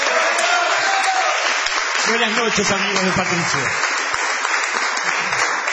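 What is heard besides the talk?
audience applause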